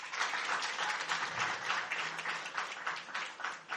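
A crowd applauds the worship team at a church service at Last Adam Tabernacle, steady dense overlapping hand claps at a moderate, even level for a few seconds with no voices over it.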